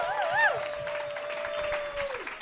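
Steady, dense clapping from an audience fills the whole moment, with a wavering whistle-like tone rising and falling over the start before holding one pitch and sliding down.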